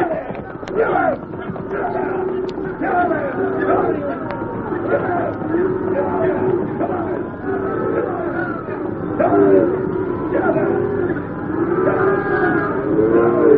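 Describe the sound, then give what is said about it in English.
A herd of cattle moos and lows continuously while being driven, many overlapping calls rising and falling at once, steady throughout with no pause between voices. “Come on, let's get these cows moving.”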